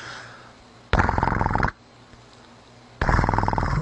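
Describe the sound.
A voice imitates a rotary dial telephone ringing: two loud, buzzing bursts with a fast rattling trill, each lasting under a second, separated by a short pause.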